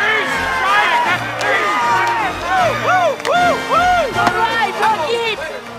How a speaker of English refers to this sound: Another swing and a miss. The crowd goes wild.